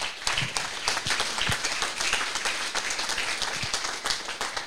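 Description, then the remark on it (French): A crowd applauds steadily for several seconds, a dense wash of many hands clapping at an even, fairly loud level with no voices over it. “on peut l'applaudir.”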